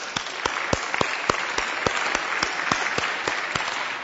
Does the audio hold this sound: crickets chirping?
no